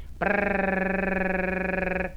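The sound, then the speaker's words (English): A single voiced rolled-R trill, the R as rolled in the word Cherokee, held for about two seconds. It is a steady mid-pitched hum with a rapid, even flutter, made by a person imitating a little bird's trill with no other sounds. “Now then, some of your friends might think that you're off your rocker, but practice this to get the little bird trill.”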